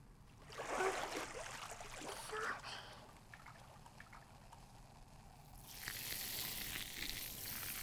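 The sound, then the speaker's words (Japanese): A steady bubbly fizzing, like carbonation crackling, with a brighter, hissier burst of fizz toward the end; a faint soft voice murmurs underneath. “シュワシュワ流すね。”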